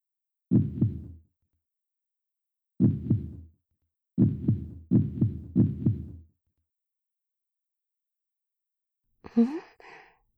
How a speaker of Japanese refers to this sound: ん？あら？不思議ですね。何やら鼓動が、ますます速くなってきているような。